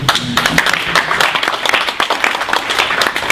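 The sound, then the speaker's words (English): A conference audience bursts into steady, loud applause, many hands clapping densely and continuously for a few seconds, with a brief murmur of voices at the start. “I think we have to applaud to this.”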